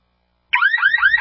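A home security alarm blares suddenly after a moment of silence, its loud electronic wail repeating in quick rising sweeps, alone with no voices.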